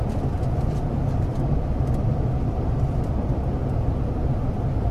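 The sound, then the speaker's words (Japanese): A Japanese commuter train, a Toyo Rapid service running through on the Toyo Rapid Railway line to Toyo-Katsutadai and approaching Nishi-Funabashi, runs along the tracks with a steady, dense low rumble at even loudness, faint light rattles and ticks flickering above it, and no voices. “この電車は東洋高速線直通、東洋快速、東洋勝田台行きです。”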